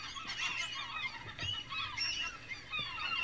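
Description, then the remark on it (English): A dense chorus of seagulls squawking and crying over one another, loud, with overlapping calls filling every moment and no pauses. “There's so many seagulls.”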